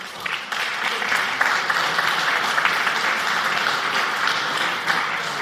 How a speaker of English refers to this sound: First of all, big applause for all of you.